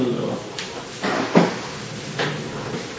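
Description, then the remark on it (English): A door is opened with a few short creaks and a soft thump, amid quiet background noise and faint voices. “Should I open the door?”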